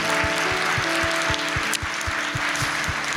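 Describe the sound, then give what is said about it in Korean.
A church audience applauds to give thanks and glory to God and to honor the pastor, the POP members and the praise team for their year of work, in a dense, steady wash of clapping, with a regular low thumping beat and sustained tones running underneath throughout. “큰 박수로 영광을 돌리겠습니다”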